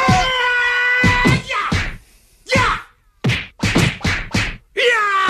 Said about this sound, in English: Please don't repeatedly hit me over the head with that chair.